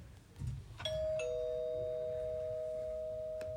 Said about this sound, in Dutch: Plots gaat de bel.